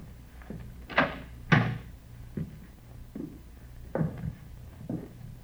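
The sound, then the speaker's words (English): An apartment door is tried and opened: a run of sharp clunks and rattles, two louder knocks early on, then several softer handle-like clicks spaced out over a few seconds, with no talking. “Better try the door, huh?”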